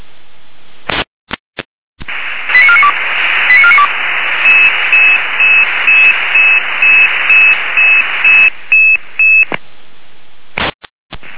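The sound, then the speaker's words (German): A dispatch radio of the Weimarer Land control centre in Germany sends a sequence of alerting tones: a few short stepped beeps, then a long run of evenly pulsed high tones over a hissy, band-limited radio channel, with bursts of static before and after. “Die Leitstelle Weimarer Land mit Alarmierung.”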